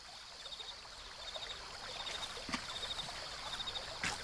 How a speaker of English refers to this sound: In the dark, you hear the trickling of water in the brook of Kidron. And soon your feet are washed in its cold waters as you head toward the garden.